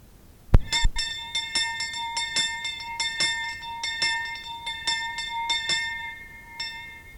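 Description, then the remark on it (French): A church bell rings out once more to call latecomers, in a quick series of about a dozen strikes, each bright clang overlapping the last as the tones hum on, moderately loud with no voices. “La cloche sonna encore une fois à l'appel des retardataires”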